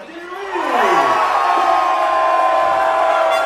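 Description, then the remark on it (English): A dwindling crowd roars in celebration of a goal in the final minute of a football match that saved Brazil from a shutout, the cheer swelling quickly within the first second and then holding as a loud, sustained wall of voices with some higher shouts rising through it. “In the final minute of the game, the dwindling crowd cheered the goal that saved Brazil from a shutout.”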